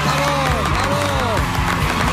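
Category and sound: crowd, studio audience applause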